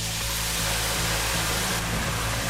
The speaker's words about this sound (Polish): Zwiększamy ogień i wlewamy wino na patelnię.